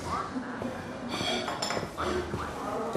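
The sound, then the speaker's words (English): Busy restaurant ambience with dishes and cutlery clinking repeatedly, layered over a steady murmur of indistinct background voices. “In a restaurant, Manana sits at a table.”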